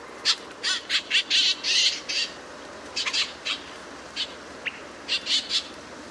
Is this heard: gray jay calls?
yes